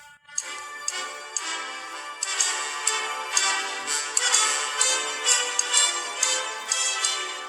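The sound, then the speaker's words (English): Crisp clock-like ticks tap out an uneven, syncopated rhythm over a full, sustained orchestral backing, the clicks standing out sharply against the steady music. “From far and wide the people flock to hear the syncopated clock.”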